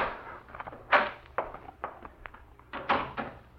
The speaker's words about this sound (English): He was almost here now. The knob was turning in the door.